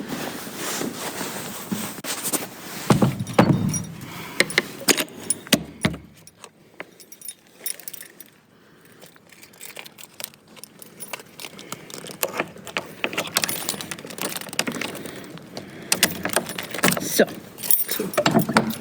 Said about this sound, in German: Und so wie die Tür des Grauen Turms gerade ins Schloss gefallen ist, genau so beenden wir für heute auch unsere Folge Hör mal Nummer 2.